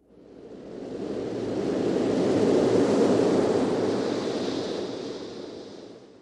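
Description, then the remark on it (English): A single broad wash of sea surf swells up, peaks mid-way and slowly recedes, a steady hissing roar with no voices, as waves of the sea wash the shore of Lindisfarne, a tidal island in Britain. “A place, as the Venerable Bede once wrote, a place that with the ebb and flow of the tide is twice a day encircled by the waves of the sea, like an island, and twice rejoined to the mainland when its shore becomes exposed again.”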